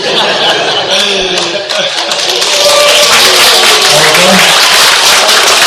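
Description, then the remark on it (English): An audience at a talk in Tatarstan claps steadily throughout, a dense, loud patter of many hands, mixed with scattered chuckles and murmuring voices. “Don't clap yet.”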